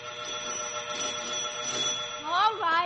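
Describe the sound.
A doorbell at a family's house rings at 5 p.m. in a long, steady, buzzing tone that holds for a few seconds, loud, before a voice begins calling out near the end.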